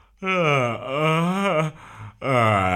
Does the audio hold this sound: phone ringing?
no